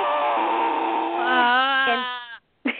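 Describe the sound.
A person with the tongue stuck out imitates a lion with one long, loud, breathy roar that strains and rises slightly in pitch for about two seconds, then stops abruptly. A brief pause follows before another sound begins.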